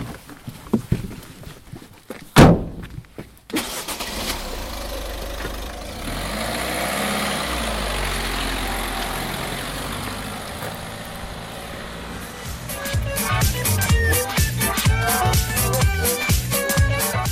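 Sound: car engine running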